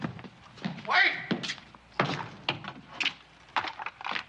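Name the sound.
door slamming shut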